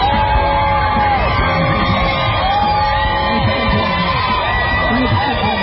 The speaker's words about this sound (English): The crowd cheers as President Trump leaves the hospital briefly, waving from an SUV.